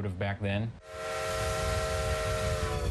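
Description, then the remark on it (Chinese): A brief bit of talking gives way to a steam locomotive's loud, sustained whistle, a steady multi-tone blast over rushing steam hiss and low rumble, continuing to the end. The locomotive runs on the Strasburg Rail Road in the United States, a 7 km line dating from 1832, pulling restored wooden passenger cars through the countryside. “几辆强大的蒸汽机车和复原的木质车厢用来提供穿越乡村的旅行，车程为45分钟。”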